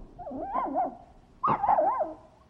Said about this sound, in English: I started hearing the dog crying in the next room because it was a puppy.